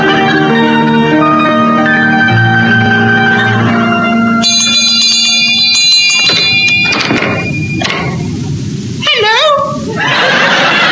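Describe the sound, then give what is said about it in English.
A clanging bell at the gates of Grimbody Keep rings out loudly midway, its ringing tones hanging in the air amid a dense, busy mix of other sounds, with rustling and voice-like cries toward the end. “You rang, sir? I had to. The bell was broken.”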